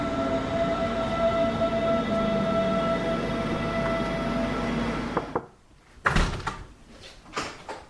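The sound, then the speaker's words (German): An S1 S-Bahn commuter train toward Freising hums and rumbles steadily with a sustained tonal whine, then the noise cuts out abruptly and a few sharp clunks and bangs follow, like doors or latches. “Also ab in die S1 und raus nach Freising zum Campus Weihenstephan.”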